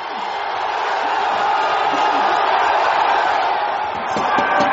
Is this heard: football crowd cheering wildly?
yes